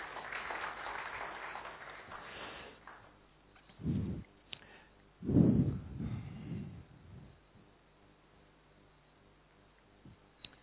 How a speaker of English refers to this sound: Okay, so this year we are celebrating 80th anniversary of Brahma Kumaris. Yeah, you can clap.